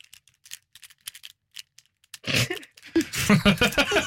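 A few light, scattered clicks, then a burst of busy rattling as five pens are shaken together, clattering in quick irregular bursts with no talking.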